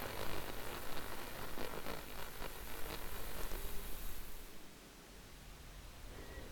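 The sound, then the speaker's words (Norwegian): Steady rain patters against a window, a dense hiss with faint ticks of drops, louder at first and then easing to a softer, quieter wash near the end. No one speaks. “Se på dråpene som former seg på vinduet foran deg.”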